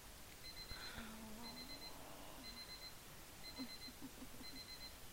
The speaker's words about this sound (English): Oh, I slept on the alarm clock again.